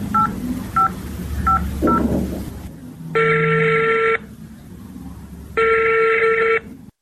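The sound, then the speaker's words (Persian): A series of short dialing tones is keyed in, about five quick beeps, followed by two long, steady ringback tones separated by a pause. Low background hum runs underneath, with no talking. “زنده باشی تو باش که من به مادرش زنگ بزنم که بچه ایت پیدا شد.”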